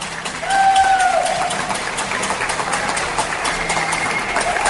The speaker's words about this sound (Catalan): I el sentim aquí mateix i a més avui amb una il·luminació especial que veig jo des d'aquí de casa, que és la font màgica de Montjuïc, que hi surten tots els làsers i la imatge és bonica a conjunt amb els aplaudiments, que us deixo sentir.